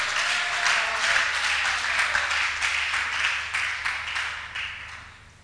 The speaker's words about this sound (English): If somebody is hearing what I'm saying and believing that it works, can the person shout and clap to God's glory?